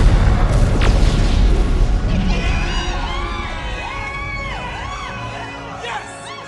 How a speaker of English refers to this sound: The Protector veers away just before colliding with Saris' ship, and the mines impact with the enemy vessel.